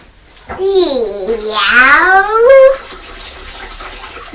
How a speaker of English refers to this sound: You're washing Purdy's bowl up so she can have some fresh water. What's water? Fresh water for Purdy.